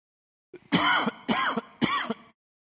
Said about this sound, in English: Hang on just a second, I'm going to cough.